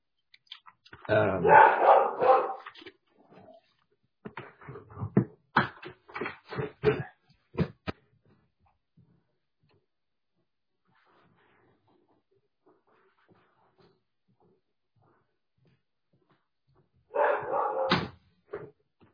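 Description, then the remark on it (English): A dog that has escaped barks in a loud burst, followed by a run of sharp clicks and short yaps, then a long quiet stretch before another brief flurry of barking near the end. “was watching the dog and he escaped.”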